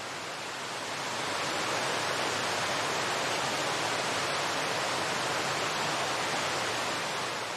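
A steady, dense roar of the rushing Tamul waterfall in the Huasteca Potosina fills the whole clip, unbroken and fairly loud, swelling slightly in the first second and then holding constant with no voices.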